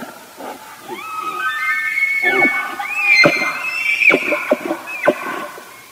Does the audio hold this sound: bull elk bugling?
yes